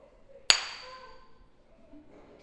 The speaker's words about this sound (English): For an example, I'm going to hit this rock with this hammer, and I want y'all to listen and see if it cries or makes any kind of noise.